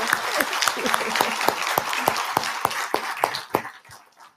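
A small audience applauds, many hands clapping in a dense, steady patter with a few sharp louder claps standing out, then the applause thins and fades away near the end.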